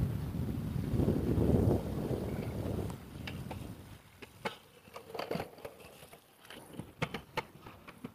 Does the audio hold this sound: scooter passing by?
yes